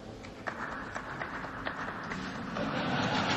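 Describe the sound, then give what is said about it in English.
Thin, scattered clapping from a few people after a remark by the president on homeowners, with reverb from a grand hall: sparse irregular claps over a steady hiss of noise, growing slightly fuller toward the end, with no voices. “A smattering of applause there, kind of weak applause.”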